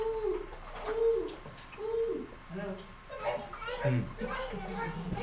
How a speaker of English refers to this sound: Especially when probably you have been to the forest before. You hear one bird.